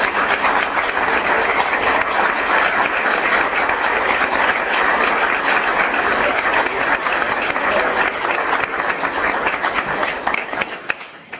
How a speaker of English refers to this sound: let's give a round of applause for Dr.